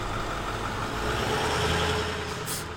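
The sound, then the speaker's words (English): A bus engine idles with a steady, low diesel rumble and a constant hum, and a short burst of hiss comes near the end. The bus takes students to the Travis County Correctional Facility jail in Del Valle. No one speaks. “Once a week, they get on the bus and go to the jail.”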